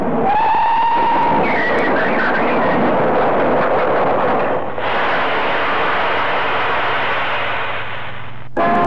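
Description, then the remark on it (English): A train brakes hard on the line as an elderly man walks onto the tracks: a shrill metallic squeal at the start gives way to a loud, sustained grinding roar that shifts partway through and cuts off abruptly near the end. “The silly old coot's walking onto the line. Here, put on them brakes.”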